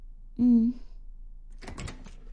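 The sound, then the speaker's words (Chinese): A short hummed vocal sound, then after a pause a brief rattling clatter as a door at a ranch is opened, lasting about half a second. “你好麻烦呀，开门。”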